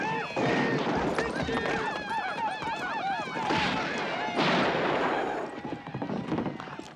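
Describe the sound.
Horses whinny repeatedly in wavering, high cries while hooves clop underneath, amid a loud, chaotic din with sharp cracks of gunfire and shouting voices throughout, as Indians set fire to the house at the Yardner Ranch and steal the horses.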